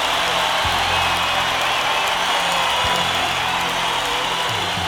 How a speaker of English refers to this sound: Crowd is wild.